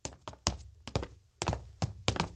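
Heavy footsteps of two parents inside a house thud up a wooden staircase, about eight dull, uneven steps in quick succession, moderately loud, with no voices.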